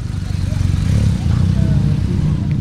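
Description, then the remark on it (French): A loud, steady roar of dozens of motorcycle engines starting, idling and revving together at a departure, a deep layered rumble that fills the whole stretch without pause. “Tout le monde est équipé en radio, les motos démarrent.”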